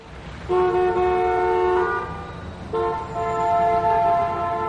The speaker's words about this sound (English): The traffic in Calais was quite bad.